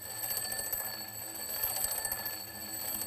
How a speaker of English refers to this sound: We can measure those variations like this, using the Doppler effect. Listen to the sound as the alarm clock moves towards you.